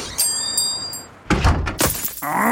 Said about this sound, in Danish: Et stenslag!